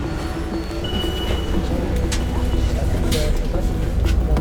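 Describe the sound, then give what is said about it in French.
A large night bus pulls in, its deep engine rumble steady and slowly swelling, with a few brief hisses and clanks and faint voices murmuring in the background. “Ah, cool, le bus de nuit arrive.”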